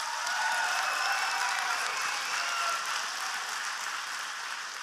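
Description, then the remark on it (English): An audience claps in a steady, even patter that stays at one subdued level for the whole stretch, with no voices and no swell or burst of enthusiasm. “So, that's such a weak clap.”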